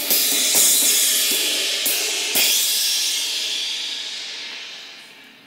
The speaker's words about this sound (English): It hurts. My ears might be ringing after that. Here, I'll give this back. It was really loud, sorry. That's what he says. It's a clanging cymbal.